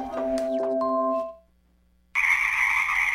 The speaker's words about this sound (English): It's 10 o'clock. The revelry of the Pacific chorus frogs is scarcely affected by the engine vibrations from passing late night airplane flights. You're listening to a special 24-hour Earth Day broadcast of the soundscape from the Tlaxcalan Marsh